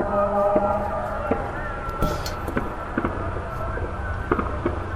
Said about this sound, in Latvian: Ir nedēļas nogale un pilsētā daudz vietas vien kāzas. Vakarā minoretu dziedājumu fonā dzirdami salūtu būkšķi.